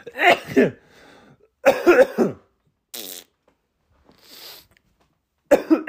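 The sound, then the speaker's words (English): After singing in a screamo style, a person lets out several harsh, explosive coughs in uneven clusters, separated by brief pauses and mixed with softer raspy and breathy noises. “Okay, that makes me have to sneeze, cough, and fart.”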